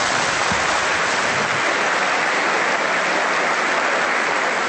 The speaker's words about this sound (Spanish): Al llegar a la presidencia del Congreso, el mandatario de los colombianos, Iván Duque, fue saludado con un fuerte aplauso.